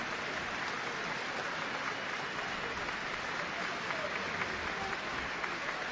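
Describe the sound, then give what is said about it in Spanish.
Sustained applause from a large stadium crowd during a tribute minute that was meant to be silent but became applause, ended by the referee's whistle; a dense, steady wash of clapping that holds at an even level throughout with no pauses, like a roar of hands filling the stands. “Pita el árbitro, se ha respetado el minuto y al final no ha sido de silencio, sino de aplauso.”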